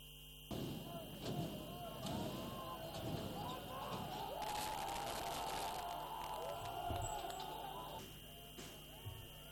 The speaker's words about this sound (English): Security forces fired tear gas and used water cannon to disperse the angry crowd of mostly youth who threw rocks and set garbage bins on fire in Tripoli's main square.